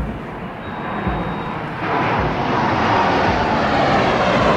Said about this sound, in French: Groupe aérien européen. 4 Mirage 2000-5 français, 4 Jaguar britannique, 4 AMX italien, 4 F-18 espagnol, 4 F-16 belge, 4 F-16 néerlandais, 4 Tornado allemands.